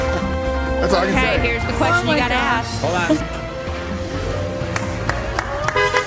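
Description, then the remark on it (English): The horn of a newly won BMW car sounds in a long, steady honk during the second half, blending with excited cheering voices and scattered clapping. “That's how you know it's real. When they honk the horn.”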